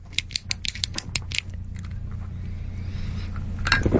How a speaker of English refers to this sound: This is the reason why I actually refuse to have clicky pens in our house.